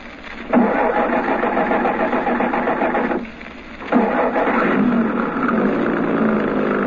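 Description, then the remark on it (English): A truck engine rumbles loudly, cutting out briefly after about three seconds before starting up again and running steadily. No one speaks. “Truck's there. Back of it towards us.”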